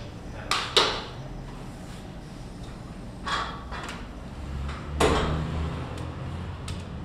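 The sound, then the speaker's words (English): A door is pushed open by hand by a blindfolded person, with a few sharp clunks and scrapes of the mechanism, spread over several seconds against a low steady background rumble, with no one talking. “Find it with your hand and then push. And then we'll do it for the second door as well.”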